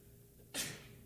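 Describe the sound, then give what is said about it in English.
A single sharp sneeze bursts out after a moment of quiet, a sudden hissy blast that fades quickly, with no talking. “Bless you.”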